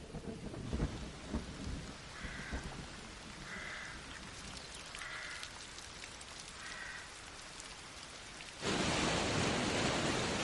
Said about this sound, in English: Amongst the wettest months of the year, with rain falling on 2 out of 3 days.